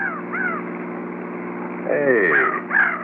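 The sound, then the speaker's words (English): Hawks flying down in a canyon give shrill, downward-sliding cries, a couple early on and a louder cluster near the end, over a steady low car engine drone that runs the whole time. “look at them hawks flying down there in the canyon.”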